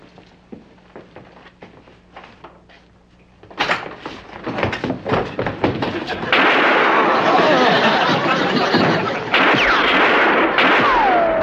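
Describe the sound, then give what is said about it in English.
A few faint, scattered clicks give way to a rapid, loud barrage of gunshots, which blurs into a sustained roar of dense, crackling noise until the end. “I think they shot each other.”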